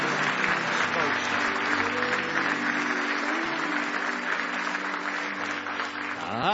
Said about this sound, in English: Now give him one more hand clap of praise if you love him this morning.